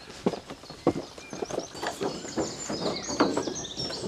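A wren sings at full volume, its rapid, shrill trills and chirps running through the whole clip over a scatter of irregular thudding steps.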